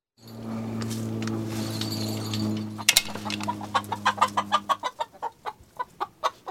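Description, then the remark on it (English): Eleven backyard chickens cluck and chatter in a chicken run over a steady low hum, then settle into a rhythmic series of short, repeated clucks in the second half. “So we're in my chicken run, and I have 11 chickens.”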